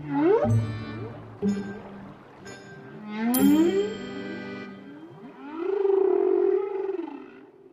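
whale vocalization

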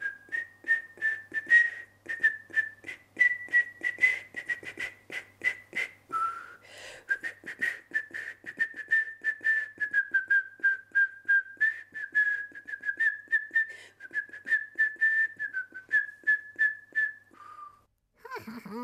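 person whistling a melody

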